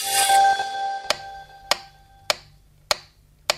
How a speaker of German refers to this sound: So würde sie vielleicht klingen, wenn man sie hörbar machen könnte, die Atomsekunde. Wobei das Ticken eben wohl etwas zu schnell ist für eine Sekunde.